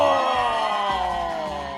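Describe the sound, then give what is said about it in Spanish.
A crowd of fans cheers and screams loudly in the Radiopolis studio in Mexico during a live radio show, a dense, high-pitched wall of voices that holds steady for the whole moment, with no talking over it. “Y si nos escuchan así medio raro, es que estamos en el foro de acá de Radiopolis porque hay fans, que se escuche que hay fans, venga.”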